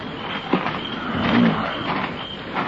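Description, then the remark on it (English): A car door creaks open slowly in the dark, a low groaning hinge sound rising over steady background noise, with a short squeak near the start and a longer drawn-out creak midway, as someone opens it to turn off the car's parking lights. “Wait, I'll open the door and turn them off.”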